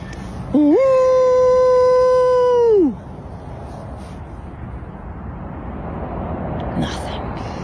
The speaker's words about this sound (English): And then a moment later, they heard a howl. Off in the distance, many feathers ruffled. many a fur arose. They knew this call.